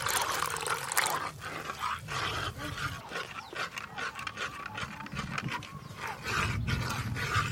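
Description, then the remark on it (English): Hot water is poured steadily into a thick cacao paste to dilute it into a cacao drink, a continuous gurgling and splashing with a few brief surges, lasting several seconds with no voices. “we're going to dilute the paste with hot water to make our cacao drink. Hot water's poured in.”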